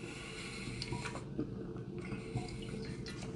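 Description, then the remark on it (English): Water pours steadily for a few seconds, a continuous splashing trickle with small bubbly spikes, heard on its own without any voices. “Always drink your water, kids.”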